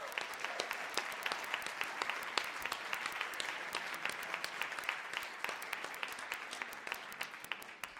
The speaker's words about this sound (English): So a round of applause, please, for him.